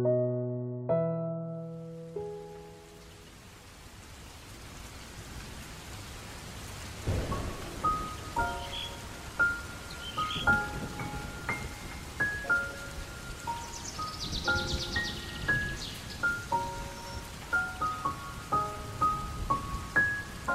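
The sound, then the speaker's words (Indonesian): Soft, steady drizzle hisses and patters throughout on a clear morning at the start of the rainy season at Borobudur temple, joined after a quiet start by scattered bright, chime-like tones ringing over the rain. “Gerimis lembut turun di permulaan hari yang jernih itu.”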